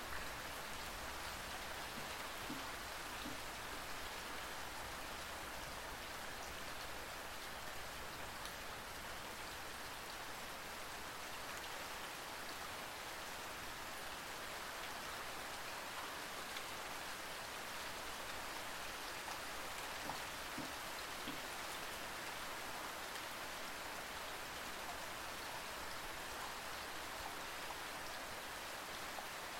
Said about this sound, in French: Concentrez-vous simplement sur le bruit de la pluie qui tombe et sur l'air qui entre et sort de vos narines.